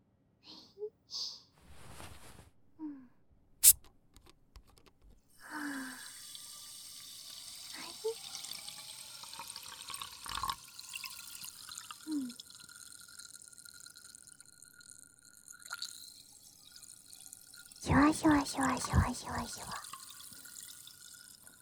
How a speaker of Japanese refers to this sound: シュワシュワシュワシュワシュワシュワシュワシュワシュワ。コップからコップにゆっくり炭酸水を流し込んで、シュワシュワ。